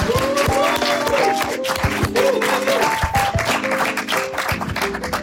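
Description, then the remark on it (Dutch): An audience breaks into steady, loud applause for a second-year and a fourth-year student, lasting the whole five seconds, dense clapping with the show's bright, tuneful music jingle playing underneath. “Mag ik een heel groot applaus voor een tweedejaars en een vierdejaars student”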